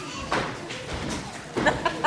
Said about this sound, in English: Suddenly, the sound of important-looking footsteps could be heard in the distance. Are they coming? It's the kings. Wow, those footsteps sound important.